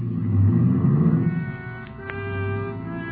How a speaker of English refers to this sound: Ibarra was grim as he climbed in his car and drove off fast.